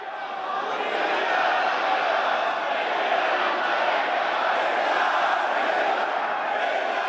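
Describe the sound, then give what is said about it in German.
A large crowd of Shiite Muslims at the Ashura festival in the great mosque of Tehran, Iran, cheers and chants in unison as Iran's Supreme Leader appears, a loud, dense roar of many voices that holds steady throughout without a break. “Wir hören es, die Menge jubelt.”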